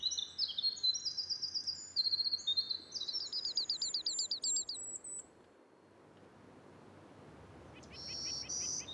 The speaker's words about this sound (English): If you stepped into the spruce fir forests of Acadia National Park early last summer, these are some of the bird songs you might be greeted with.